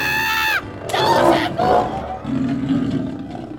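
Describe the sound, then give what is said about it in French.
A brief tonal cry gives way to a loud, rough Bengal tiger roar with snarling growls, rising and falling in a couple of bursts over a few seconds. “Le pouvoir de... changer les micros en tigre du Bengale.”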